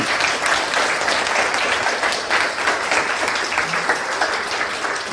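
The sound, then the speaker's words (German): Steady, dense audience applause with many hands clapping at once, a loud continuous crackling wash that holds steady for several seconds without voices, given for the team who ran the coding projects over the weekend. “Die haben den Applaus auch auf jeden Fall verdient.”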